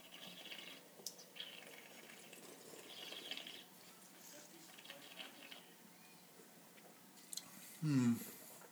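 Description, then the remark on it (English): Quiet wet mouth sounds of someone sipping and tasting a California Sonoma Cabernet red wine, soft swishing and smacking, ending in one short, louder slurp. “And I've just taken a sip, folks. I'm going to take another sip.”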